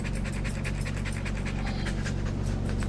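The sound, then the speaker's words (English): A dog pants quickly and steadily inside a mobile dog-grooming van, each breath a short rhythmic huff, over a constant low mechanical hum. “The van is bulbous and white, and dogs waiting to be washed or clipped lie patiently on the floor inside.”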